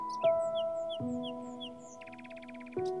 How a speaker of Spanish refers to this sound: Comienzo a percibir los sonidos de los pájaros que me rodean y me acompañan.